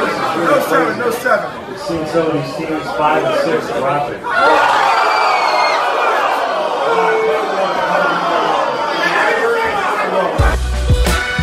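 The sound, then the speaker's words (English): A crowd chatters at NBC Sports Chicago's draft party at a local establishment, then erupts into loud cheering about four seconds in, with a woman's shrill, sustained scream riding above the noise before it cuts off abruptly. “Who's the woman screaming in the back?”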